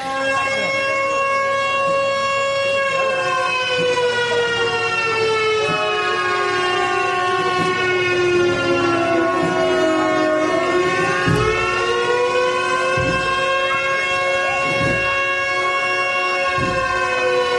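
Several loud, sustained ship horn blasts overlap and waver in pitch for the whole stretch, rising and falling slightly, with occasional low thuds beneath, during the maritime procession of Burela, where sailors carry the Virgin on their shoulders.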